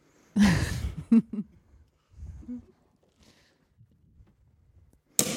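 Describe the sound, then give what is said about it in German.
A bottle cork pops with a burst of breathy, fizzing hiss, then a second short crack, followed by quieter rustling and handling noises. “Und jetzt bin ich mal gespannt, wie hoch der Korken knallt.”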